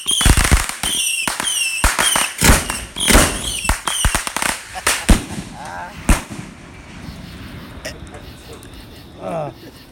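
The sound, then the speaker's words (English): A rapid volley of loud, sharp gunshot bangs crowds the first half, then thins to a few scattered shots with lingering echoes, while voices murmur underneath. “Are they still shooting? Still shooting.”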